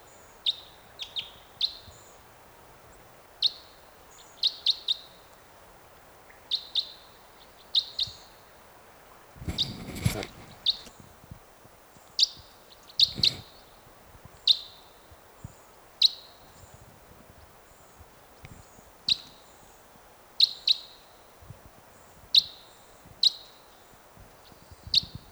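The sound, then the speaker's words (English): Type 5 bird flight calls at dawn repeat steadily, sharp high chips coming every second or so for the whole stretch, with a couple of brief low rumbling bursts of noise partway through. “Sounds like there's some type 5s coming in.”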